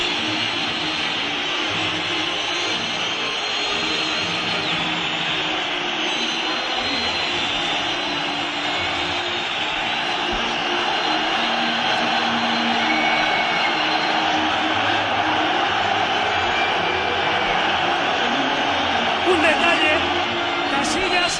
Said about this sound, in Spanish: ¡Ahora, por favor, silencio! ¡Oímos el Bernabéu! Bueno, menuda pitada.